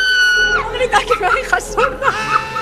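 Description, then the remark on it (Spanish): A woman in an audience waiting for a show to begin lets out a high-pitched, sustained scream that breaks into wavering shrieks, loud, with faint crowd chatter and some laughter in the background. “Muchacha, si aún no ha empezado ya está gritando.”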